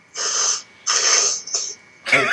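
Loud nose blowing in several forceful, hissy honks: two long blasts, a short follow-up snort, then another burst starting at the end, with no talking.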